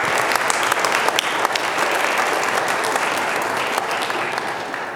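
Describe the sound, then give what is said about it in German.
Sustained audience applause after a presentation fills the whole stretch, a dense, steady wash of many hands clapping, with no voices standing out. “Ja, erstmal einen Applaus für Susanne.”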